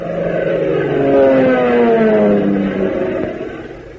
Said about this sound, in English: Say, doesn't the sound of that plane motor do something to you? Doesn't it make you want to be a flyer?